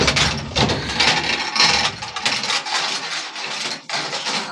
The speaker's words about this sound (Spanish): La puerta de la celda es cerrada.